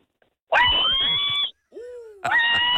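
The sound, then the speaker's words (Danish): A pig about to be slaughtered squeals shrilly in two long, piercing bursts, with a lower, sliding grunt-like cry between them; loud, harsh and strained, with no talking. “Det er et svin, der skal til slagtning.”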